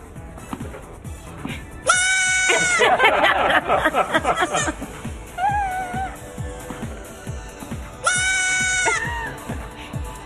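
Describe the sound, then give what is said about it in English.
A young goat, Fawcett the Yelling Kid, lets out loud, strained, human-like screaming bleats, two long cries with wavering pitch plus a choppy burst of shorter calls, with some background voices. “I bring you Fawcett the Yelling Kid.”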